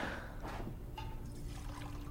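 Water pours steadily into a glass, a continuous trickling splash lasting about two seconds, with no voices over it.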